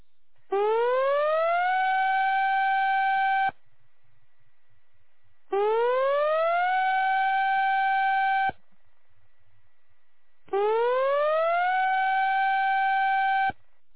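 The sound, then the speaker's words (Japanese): A civil defense tsunami warning siren of the Mihama town disaster prevention system sounds three times, each loud blast sweeping upward in pitch, holding steady for a few seconds, then cutting off abruptly before a short pause. “大津波警報。大津波警報。直ちに高台に避難してください。”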